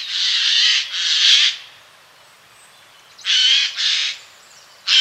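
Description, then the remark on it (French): A Eurasian jay, a brightly colored bird, gives harsh, raspy screeches in close pairs, two bursts, a pause, then two more and the start of another, loud with no talking. “C'était celui du jet, ce bel oiseau fort coloré, reconnaissable à son cri.”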